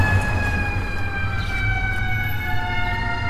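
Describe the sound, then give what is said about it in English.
A fire engine siren wails steadily, its tone sliding slowly downward as the truck passes, over a constant low rumble of engine and road noise. “See, we're just going to pull over and let this fire engine go by.”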